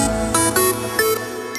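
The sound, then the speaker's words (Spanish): Several phone notification chimes ping in quick, irregular succession, bright bell-like tones overlapping one another over a steady humming tone, with no talking; in a radio advert for Alquiler Seguro, they are alerts telling property owners their rent has been paid. “Son nuestros 30.000 propietarios recibiendo el aviso de que hoy ya han cobrado sus rentas.”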